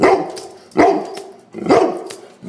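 A dog barks three times in a steady rhythm, each bark loud and full-bodied with a slightly rough, mid-pitched tone, alone with no talking.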